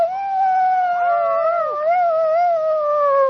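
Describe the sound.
A person imitates a wolf howl with one long, loud, sustained note, its pitch wavering slightly before trailing off after about three seconds. No talking.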